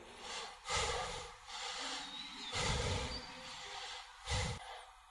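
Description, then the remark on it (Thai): Heavy, forced breathing demonstrating the tense breath of forcing the mind to watch the breath in meditation: about four loud, strained breaths through the nose, snorting and hissing in an uneven rhythm, with no talking. “แต่เวลาเราจะไปรู้ลมหายใจนะบังคับจิต อย่างนี้นะเครียดไง”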